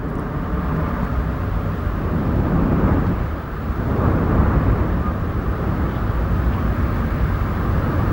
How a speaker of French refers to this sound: Un son de vent, d'abord parce qu'il y en a beaucoup dans le roman, on en parlera tout à l'heure, de ce climat que vous développez de roman en roman, d'ailleurs qui sont souvent très météorologiques